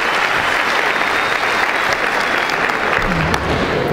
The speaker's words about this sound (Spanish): Date un aplauso.